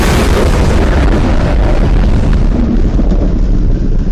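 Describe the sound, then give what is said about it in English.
A massive, continuous booming roar as a bean the size of a blue whale is launched, with deep rumbling bass and a harsh wall of noise that stays loud from start to finish. “At 12:57 p.m., the third bean launched with a terrible booming roar that rendered thought impossible.”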